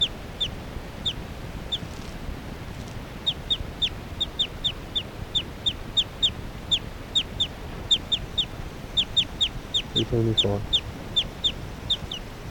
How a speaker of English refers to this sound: Occasional chirps by 378 there.